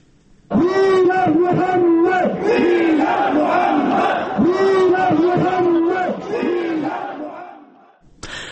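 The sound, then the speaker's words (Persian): A large crowd of at least 15,000 protesters in Islamabad, Pakistan, who burned a French flag, chants slogans against France in unison, loud and rhythmic, with repeated rising and falling shouted phrases that keep going for several seconds before cutting off abruptly. “مظاهرچیان بیرق فرانسه را آتش زدند و علیه این کشور شعار دادند.”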